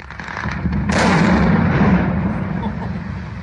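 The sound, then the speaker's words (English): A sudden, powerful blasting explosion around the pit of the Bootu Creek manganese mine, north of Tennant Creek in Central Australia, Northern Territory, with a sharp onset about a second in, followed by a deep, rumbling roar that lingers and slowly fades over several seconds. “These blasts around its pit are carving out a precious mineral, manganese.”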